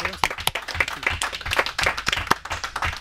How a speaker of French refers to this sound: Merci, je crois qu'on peut applaudir Serge Lopez.